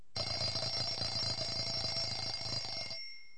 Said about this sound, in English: Situation 1. Getting up in the morning. The alarm clock rings.